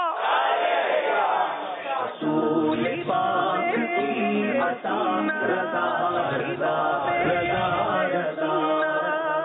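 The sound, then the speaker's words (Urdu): A crowd shouts a loud, sustained call-and-response chant in reply to a religious slogan during the Zauq-e-Naat Season 10 contest between Karachi and Hyderabad teams, many voices roaring together in rhythmic bursts with strong harmonic voicing, continuous and energetic throughout. “آئیے نعرے کا جواب دیجیے”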